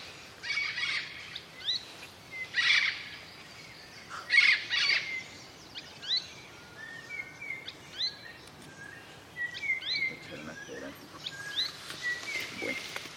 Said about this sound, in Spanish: Hoy llegaron los loros, vienen por encima de nosotros.